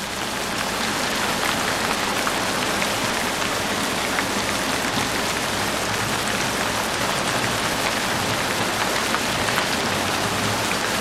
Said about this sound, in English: In the matter of a single night, while the storm rages in its fury, the tempest and the thunder of the furious elements in conflict.